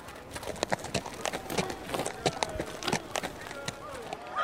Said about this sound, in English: Is that horse still drunk? Well, after your success in the lists, we put all the king's war horses on the hale diet.